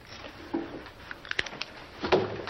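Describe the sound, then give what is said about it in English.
A door swings shut with a sharp latch click partway through, framed by soft handling and shuffling noises; fairly quiet, with no one speaking. “He closes the door.”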